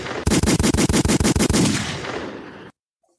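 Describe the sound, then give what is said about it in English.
A loud, rapid burst of gunshot sound effects, about ten shots fired in quick succession, followed by a fading echo that cuts off abruptly into silence. “I'm gonna give you some gunshots though for that.”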